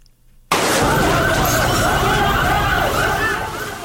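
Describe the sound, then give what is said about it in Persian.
A fire engine siren wails loudly after a brief quiet start, its pitch rising and falling in steady sweeps over a dense rumble of traffic or engine noise, as the fire engine comes to put out a fire at the COVID-19 hospital in Ghor province after a gas heater explosion. “صدای موتری آتش فشانی است که برای مهار آتش سوزی به محل این رویداد آمده است.”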